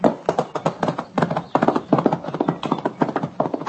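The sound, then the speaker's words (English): Horse hooves clip-clop in a steady, fairly quick rhythm, clear, with many sharp knocks in a row and no voices over them. “Give me that horse.”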